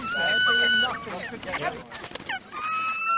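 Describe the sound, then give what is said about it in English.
Several captured red knot shorebirds, trapped under a net in a marsh, give sustained, thin, mournful whistling calls, some wavering and overlapping, with a brief burst of scuffling and chatter in the middle. “They're moaning. They sound so pitiful.”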